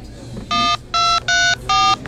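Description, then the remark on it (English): An old telephone being dialed: four clear, steady electronic tones, evenly paced with short gaps between them, over faint background hum, with no one speaking. “I didn't know anyone used that old phone anymore.”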